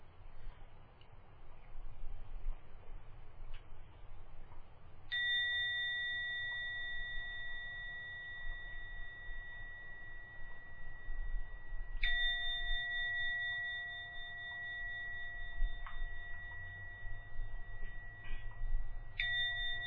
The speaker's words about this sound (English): And now give a ring the gong 3 times as usual. Please wait for the third sound from the gong to vanish before opening your eyes to end the meditation.